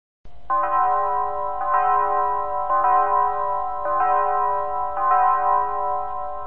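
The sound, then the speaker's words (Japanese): A church bell tolls steadily, about five ringing strikes a second or so apart, each tone overlapping the last as it hangs in the air over a low background hum. No one speaks. “教会の鐘ももう少しで鳴ってしまうところだったわ。”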